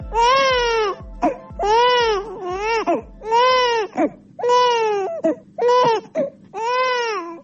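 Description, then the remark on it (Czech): An infant in Bosnia and Herzegovina cries loudly in repeated wailing bursts, each rising and falling in pitch, with short gasping breaths between them and no one speaking. “Ovaj zvuk, zvuk plača bebe u Bosni i Hercegovini, sve se slabije čuje.”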